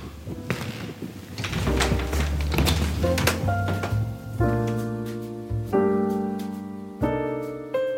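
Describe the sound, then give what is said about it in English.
A deadbolt clicks and rattles open, then a door is pushed open with a wooden thunk and scrape, followed by sustained, steady musical chords that enter in stages. “The sound of the deadbolt opening and then that sound of pushing the door open, those are sounds I've always known.”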